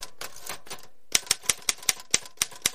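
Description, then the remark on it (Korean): Typewriter keys strike in a quick, uneven burst at first, then after a short pause come as distinct, sharp clacks at a steady rhythm, clear with no voices, as someone types a letter on an unfamiliar typewriter. “아니라면 무엇 때문에 제가 6시간을 근무한 뒤에 그것도 별로 익숙지도 않은 타자기로 이 편지를 쓰겠습니까?”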